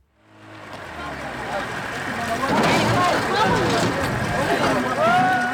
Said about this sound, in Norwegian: En båt med flyktninger når elvebredden på sudansk side av grensen.